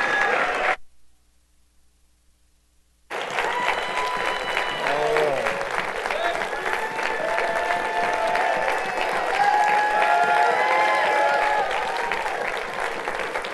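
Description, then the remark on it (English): A standing crowd breaks into loud, sustained applause for a preacher as he comes up, carrying steadily for about ten seconds after a brief pause, with scattered voices and calls rising faintly through the clapping. “Let's give this dear man of God a great big applause as he comes, please.”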